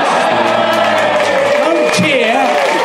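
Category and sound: crowd, audience cheering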